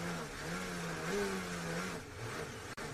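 A racing car engine drones loudly from onboard audio during a race, its pitch wavering before sagging and losing power partway through as the car fails, leaving a rougher, lower rumble with a brief dropout near the end.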